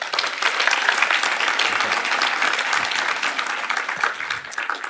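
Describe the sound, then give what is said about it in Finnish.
An audience claps steadily for the full five seconds to warmly welcome a guest, a dense, even wash of many hands with no voices rising above it. “Hänen aivoissa ja mielessään löytyy hyvin monenlaista erilaista informaatiota ja kuvioita, joita hän on yhdistellyt uniikilla tavalla, joten annetaan hänelle oikein lämpimät. Tervetuloa, aplodit.”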